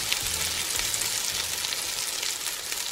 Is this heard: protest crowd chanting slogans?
no